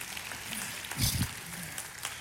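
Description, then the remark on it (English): Audience applause for a speaker's 48 years of marriage: a dense, steady wash of many hands clapping that swells briefly louder midway, with a low murmur of voices mixed in. “If you survive 48 years of marriage, you do deserve some applause, so thank you.”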